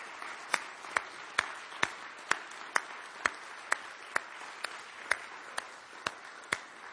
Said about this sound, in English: We have much to be thankful for. Can we all stand and give them all a round of applause?